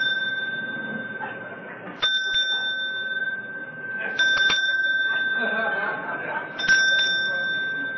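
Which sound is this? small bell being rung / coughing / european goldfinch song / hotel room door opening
small bell being rung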